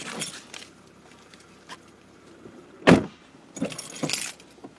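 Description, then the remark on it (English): A set of keys jangles in a few brief metallic bursts, with one sharper clink in the middle, over a quiet background of faint shuffling. No one speaks. “You almost left your keys.”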